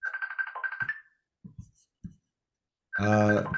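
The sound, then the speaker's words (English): A phone ringtone plays a steady electronic melody, pauses while a few soft knocks and rustles are heard, then bursts back in louder and fuller at the end. “Somebody ringing me right now.”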